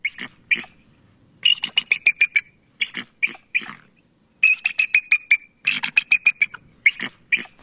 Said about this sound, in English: Here's the bald eagle from the listening cone of What is Missing.